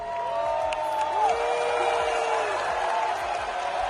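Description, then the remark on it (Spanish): A large audience at a Eurovision Song Contest semifinal in Malmö, Sweden, boos and whistles loudly throughout the Israeli entrant's performance, a dense sustained roar of crowd noise with long sliding whistles rising and falling above it. “Abucheos y pitidos que no han evitado que la representante israelí pase a la final gracias al voto del público.”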